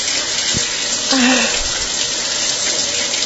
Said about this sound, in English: Oh, that strong stream of water is just hitting my foot. Very hard. Very strong. As strong a stream as I can get the shower massager to go on. And I like it fairly hot.